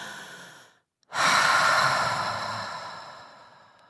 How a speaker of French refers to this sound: Là, j'ai fait exprès de le faire lentement en espérant que tous, derrière vos postes de radio, vous avez pris une grande et profonde et douce respiration.